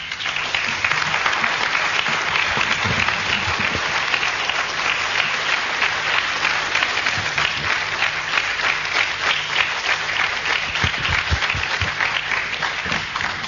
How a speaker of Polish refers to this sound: Ale te brawa to dla Jezusa.